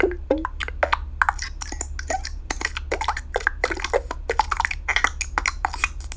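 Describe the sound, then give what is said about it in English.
A rapid run of short synthesized button clicks made for a Yahoo widget, dozens of crisp, glassy ticks and blips in varying bright tones, tumbling one after another over a steady low hum, with no talking. “So typically what I do is I create a bunch of button sounds. These are would-be buttons for a Yahoo widget.”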